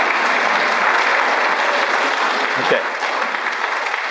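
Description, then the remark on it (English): A crowd claps and cheers steadily to encourage someone squeezing toothpaste out, a dense wash of applause holding at a fairly loud level throughout, with a brief vocal whoop rising out of it near the end. “Everybody cheer him on a little bit.”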